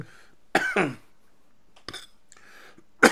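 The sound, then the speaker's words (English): A loud cough from a person with a lingering cough bursts out in two quick hacks, then another sharp cough follows a second later, with a short throat-clearing sound near the end. “Excuse me, still got this cough.”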